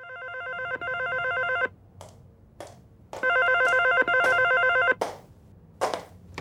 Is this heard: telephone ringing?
yes